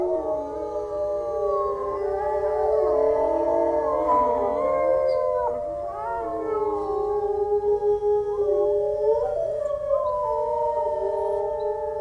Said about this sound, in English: Occasionally they call like this because, you know, during a hunt, one of the wolves wandered off and sort of got lost, broke away from the pack, so helping a pack reunite, because they split up when they hunt, right?